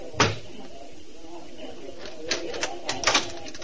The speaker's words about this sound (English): I knocked 3 times as prearranged.